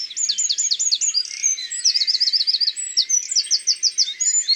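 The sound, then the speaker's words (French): A wren, a small brown bird with an upright, vertical tail, not far away, delivers a fast, high-pitched, vigorous song of rapid trills and chattering phrases, loud, repeating the same phrase continuously with no voices present. “Il est minuscule, mais son chant est très puissant. Et sa strophe est toujours la même. C'est rapide, aigu, vigoureux.”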